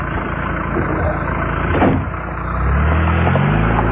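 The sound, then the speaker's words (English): A car engine idles with a steady rumble, then revs up and rises in pitch as the car pulls away after dropping off a passenger below the old BCN broadcast tower, the engine noise growing louder toward the end. “I'm not taking the car up there.”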